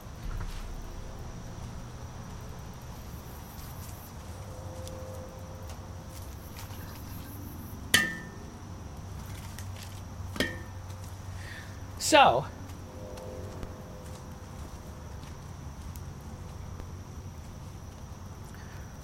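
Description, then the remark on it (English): A log being put onto a campfire in the evening twilight: a few sharp knocks and clunks, the loudest and longest near the end, over a steady chorus of crickets, with a brief spoken word. “I'll go put a log on the fire.”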